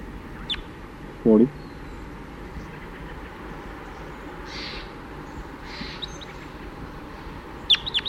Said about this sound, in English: I hear some crossbills flying over now.